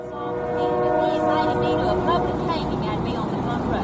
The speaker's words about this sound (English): Okay, so that train is making it a little hard to hear what she's saying.